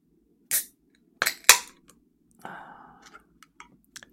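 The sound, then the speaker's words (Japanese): A can of lemon sour is cracked open: a few sharp metallic clicks and a pop, then a short hiss of fizz and a couple of light ticks, with faint murmuring voices underneath. “開けるよ。”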